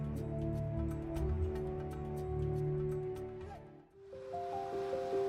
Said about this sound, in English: Deep within the continent of Africa, on the western border of Burundi, flows the Ruzizi River. For those who live in the village of Musaga, it has been their only source of water.